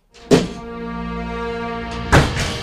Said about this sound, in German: Wir öffnen jetzt die Tür, wir gehen jetzt mal rein.